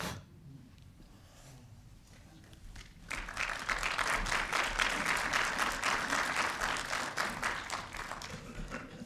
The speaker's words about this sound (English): Applause is always appreciated at the Center for Spiritual Living. Don't be shy,